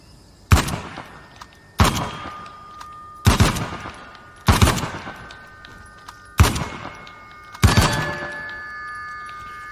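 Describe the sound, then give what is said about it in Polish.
Six loud, sharp gunshots fire in quick succession at a fairly steady pace, each crack followed by a lingering metallic ringing tone that overlaps the next shot. No one speaks. “A, czyli trzeba tak szybko strzelać.”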